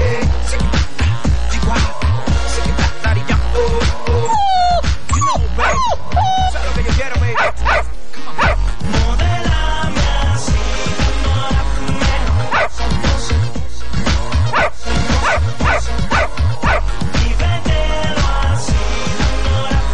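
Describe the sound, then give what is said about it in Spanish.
Barks and high yips from a household of eleven dogs punch through a loud, driving music track, repeating in quick bursts over the steady beat, with a few whiny yelps in the middle. “¿Cómo va a tener tanto perro? Suéltate un perro.”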